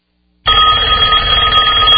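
A telephone bell rings loudly and continuously, a bright metallic trill that starts abruptly after a brief silence and sustains to the end, with no voices.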